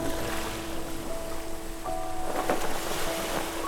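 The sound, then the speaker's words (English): A boat is pushed out and glides across the calm water of the Sea of Galilee, with a steady wash of water and a faint, continuous low hum throughout, and no voices. “They pushed their boat out onto the calm lake.”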